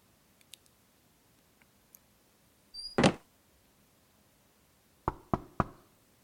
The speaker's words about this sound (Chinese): 你敲门干什么？